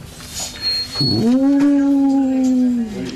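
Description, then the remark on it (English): A single sustained wolf howl rises after a brief scoop and holds a steady, slightly wavering tone for about two seconds before tapering off, clear with no talking. “De wolf. Er is een wolf in het verhaal. Waar is het? Een boze wolf.”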